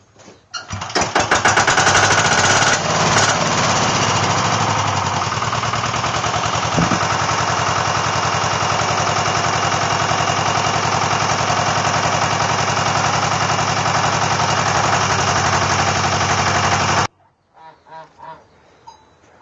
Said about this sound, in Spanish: Ahí estoy arrancando la segadora para ir a segar.